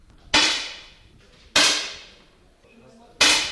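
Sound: gunshot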